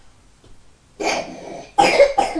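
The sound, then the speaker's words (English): A person coughs hard, a rough, drawn-out cough followed by two sharper, louder bursts in quick succession after a brief quiet start. “Bad cough, have you done?”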